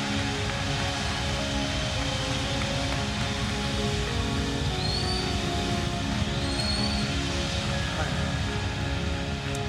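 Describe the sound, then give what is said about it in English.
A church crowd at a River Worship service claps and cheers to welcome Pastor Chris Durso, in a dense, steady roar that holds at an even loudness throughout, with a couple of brief high whistles rising out of the noise partway through. “Would you give the biggest, warmest welcome?”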